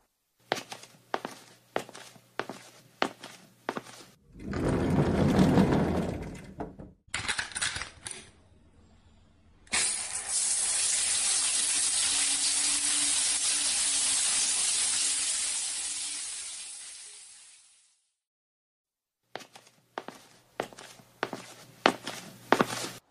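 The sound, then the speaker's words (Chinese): Footsteps pad along, then a short rush of water before a shower runs as a steady, hissing spray for about eight seconds and shuts off, followed by more footsteps. Nobody speaks. “啊，那我去洗澡了。”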